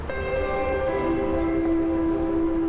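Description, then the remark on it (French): An RER commuter train passes in the distance, heard from a small iron bench by a lake, its steady droning whine holding a tone that dips slightly in pitch, over a constant low rumble with no voices. “Au loin, le RER défile.”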